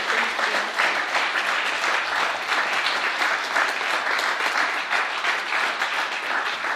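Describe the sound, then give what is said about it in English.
Steady audience applause fills the whole stretch, a dense, even wash of many hands clapping at constant loudness, with no voices rising above it. “I just wanted to make a quick thank you for people that are getting a chance to see us clapping.”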